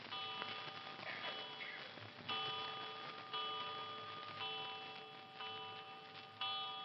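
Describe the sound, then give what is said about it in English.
A clock chimes seven times, each bright, bell-like strike ringing out and overlapping the next in a steady, evenly spaced rhythm, with no voices. “Seven times. Did you count the chimes?”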